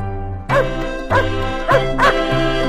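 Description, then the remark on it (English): A dog barks four times in short, sharp bursts, evenly spaced at first and then quicker, over a steady low hum in the background. “I walk my dog. Good dog.”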